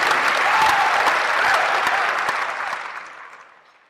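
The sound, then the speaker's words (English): A crowd applauds people who work in an industry, a dense wash of clapping held steady for a couple of seconds before gradually thinning and fading out. “But let's give all these folks a big round of applause for what they do”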